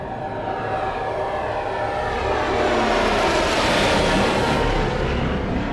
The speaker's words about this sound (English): A squad of 6 Imperial fighters, bent-wing interceptors, zoomed overhead, the hum of their engines drowning out and throttling Zerid and Eren's laughter. The bent panels of the fighter wings form parentheses around the central fuselage.